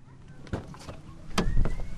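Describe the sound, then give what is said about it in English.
A car driving through downtown traffic in Tijuana, Mexico, heard from inside, with a steady low rumble that swells toward the end and a few sharp clicks and thumps cutting through. “Teddy Cruz is giving me a driving tour of Tijuana.”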